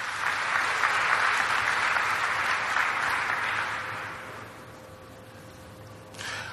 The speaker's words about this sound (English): Let's give him again a round of applause.